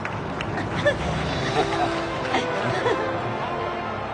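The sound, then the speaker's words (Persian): A large stadium crowd of Spain supporters roars in a steady, dense wash of voices, cheering the players during a final against Germany, with a few brief swells of louder cheering rising above the continuous babble. “جمعیت حاضر در استادیوم طرفدار تیم اسپانیا هستند و بازیکنان ما رو تشویق میکنن، اما آلمان داره میبره و هنوزم در صدره.”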